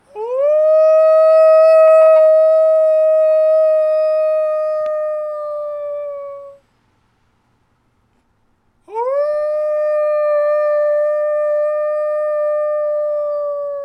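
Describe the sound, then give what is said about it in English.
Two long, loud wolf-like howls from people at night in Missoula, part of a nightly 8 p.m. howl in appreciation of frontline workers: each rises sharply, then holds a steady drawn-out note, separated by a brief silence. Human voices imitating wolves, with no talking. “So at night, we howl like wolves.”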